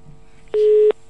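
A single steady, mid-pitched telephone busy-signal beep sounds clearly for about a third of a second after a listener's call to a radio call-in show drops, with sharp clicks at its start and end, over a quiet line hiss.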